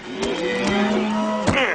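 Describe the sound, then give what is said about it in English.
A single drawn-out cow moo, low and steady with a slight downward bend at the end, fairly loud, lasting under two seconds with no talking. “Nothing beats a stroll in cattle country.”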